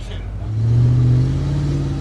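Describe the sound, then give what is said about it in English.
A car engine roars, revving up into a loud, sustained acceleration that peaks midway and holds a deep, steady growl as it continues, during a car chase being filmed in downtown Los Angeles for the Justin Timberlake movie Now. “They're filming a car chase in downtown Los Angeles.”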